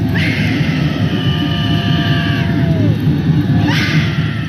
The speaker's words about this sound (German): Eine Minute Stille. Betroffenes Schweigen in Warschaus Innenstadt. Tausende Handylichter leuchten. Auf einem Schild steht Ani jednej więcej. Keine einzige mehr. Dann ein Schrei.